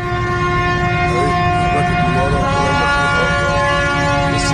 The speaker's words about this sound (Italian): Non li sento più, eccoli qua. La nave cargo Ever Given è a galla, si muove, queste sono le sirene a festa.